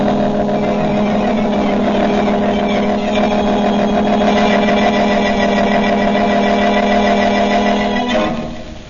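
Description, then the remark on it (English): A car engine drones steadily at a loud, even pitch for several seconds, then abruptly tapers off and fades out as the Blue Beetle drives away, speeding to the home of Charles Cochran. No one speaks. “After taking the unconscious Manigan back to police headquarters and propping him up against the front door, the Blue Beetle sped on his way to the home of Charles Cochran.”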